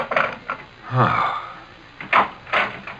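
A back door creaks open with a drawn-out squeak, then bumps shut with a couple of solid knocks.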